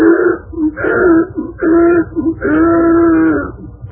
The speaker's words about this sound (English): It made the donkey want to sneeze. But the sneeze turned into a bray, a most tremendous bray.